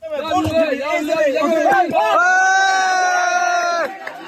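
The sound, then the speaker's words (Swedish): In Myanmar after a strong earthquake, a crowd applauds, cheers and shouts excitedly as a woman is slowly pulled out alive through a gap in the rubble, voices overlapping in loud bursts before one long, sustained high whoop rings out over the others and then cuts off. “Applåder och jubelrop när en kvinna vid liv sakta dras ut genom en springa i rasmassorna.”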